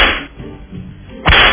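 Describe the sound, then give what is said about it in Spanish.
Loud, sharp whip lashes crack: one at the very start and another near the end, with a low, muffled rumble filling the quieter gap between them. “Dale, tres latigazos. Merecen otros tres, entonces.”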